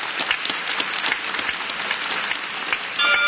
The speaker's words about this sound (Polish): Gromkie brawa dla pana redaktora.